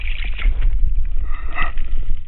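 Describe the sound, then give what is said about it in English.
A continuous, deep underwater rumble from drumming sturgeon in the Wolf River, recorded with a hydrophone. It is a loud low throb with a faint pulsing texture and some hissy wash above it, holding steady for the whole stretch with no voices. “Though most of the sound's energy is too low to hear, we can hear the top end of the drumming, as it's called.”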